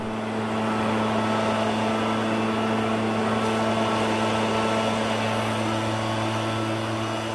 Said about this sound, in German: Heute ersetzt der Laubbläser die vielen Kinder, Onkel und Tanten und Nachbarn.